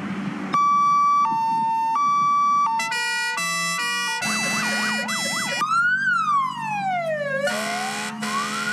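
A fire engine from the Rawa Mazowiecka fire brigade sounds its siren as it drives up to a house in Sadkowice, loud and continuous, shifting between a two-tone hi-lo alternation, a rapid warble, then slow rising and falling wails, over a low engine rumble.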